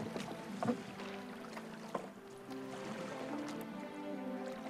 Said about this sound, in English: a small rowing boat has been restored to its former glory. Anne pushes it away from a jetty and urges Miles to take an oar